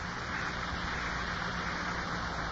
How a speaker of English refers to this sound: This blue taffeta dress. My favorite. I used to love the rustling sound it made when I walked.